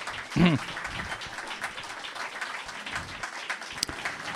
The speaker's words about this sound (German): So ein bisschen mache ich mir immer Sorgen, wenn da so ein so inbrünstiger Applaus kommt. Also ist ja prinzipiell gut.